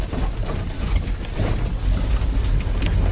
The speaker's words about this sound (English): You can't start the car, you know, so she has to, you know, have it gone down the hill to have it started. Get some speed.